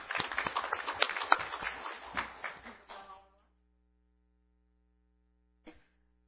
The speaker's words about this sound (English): So round of applause for everybody involved in that.